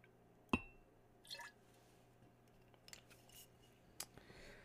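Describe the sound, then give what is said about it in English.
Rye-heavy whiskey being poured into a glass for tasting: a sharp glassy clink, then faint gurgling trickles and a few soft drips and taps, all quiet with no talking. “I'm going to pour some here and let you know what I think.”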